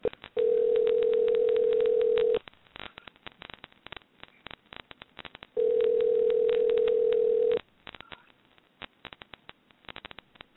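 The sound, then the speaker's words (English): A telephone ringback tone sounds twice as a talk show host places a call, each ring a steady, mid-pitched hum lasting about two seconds, separated by a pause filled with faint clicks and line noise. No one speaks. “Yeah, let me see if I can get old Iron on the phone right quick.”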